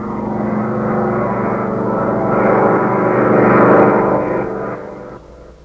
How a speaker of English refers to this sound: With a furious roar, the Nazi plane, flown by Chuck and Mud, power dives on the Nazi supply depot.